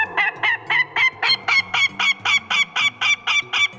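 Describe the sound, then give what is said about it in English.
A northern goshawk's harsh, rapid cackle: about fifteen loud, nasal calls repeated in a steady, insistent rhythm, clear with no other voices. “For decades, loggers and foresters would see the birds constantly, whether they were dive-bombing heavy machinery or letting out the unmistakable...”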